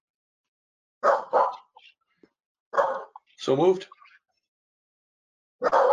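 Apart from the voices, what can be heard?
dog barking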